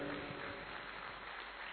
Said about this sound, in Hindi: आप सभी ने बहुत अच्छी ताली बजाई, आपने लिए एक बार जोरदार तालियां।